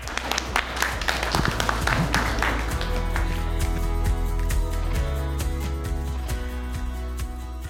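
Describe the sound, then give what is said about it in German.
Applause at a beer tasting in the Rothaus brewery cellar, a dense patter of many hands clapping that is loud at first and thins into scattered claps, over a sustained tonal hum that carries through to the end. “Jetzt war nochmal eine Ansage, oder? Applaus!”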